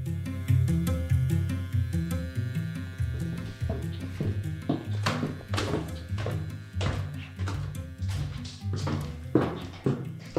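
Steady footsteps walk toward a bedroom at an unhurried pace, each step a soft thudding tap, over a low, sustained musical drone.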